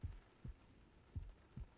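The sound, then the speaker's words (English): A muffled heartbeat thumps low, heard through a chest with a head resting on it, with four soft beats in paired lub-dub rhythm over a quiet background hum. “Can you hear my heart beating?”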